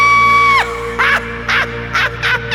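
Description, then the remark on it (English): A sustained shrill tone swoops downward, then four short, harsh maniacal screams burst out in quick succession over a steady low drone, loud. “I was locked in a cage where my heart filled with rage, and I developed this maniacal scream.”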